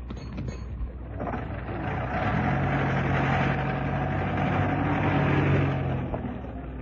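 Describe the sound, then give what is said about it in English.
A taxi that has slowed up outside a house idles as its passenger gets out, the engine giving a steady low rumble and broad mechanical noise; a droning tone settles in after about two seconds and holds evenly to the end. No one speaks. “It's slowing up outside the house. It's him, all right. He's getting out of the taxi.”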